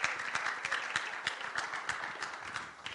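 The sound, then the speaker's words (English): An audience claps for Jesus together in a steady burst of applause, many hands overlapping into a dense, sustained patter with a few sharper claps standing out, lasting throughout with no voices. “Give Jesus another big hand clap.”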